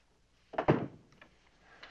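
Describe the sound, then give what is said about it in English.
A door swings shut with a single solid thump that rings out briefly, followed by a faint click moments later; no voices. “Shut the door, please.”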